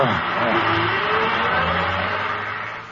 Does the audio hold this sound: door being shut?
no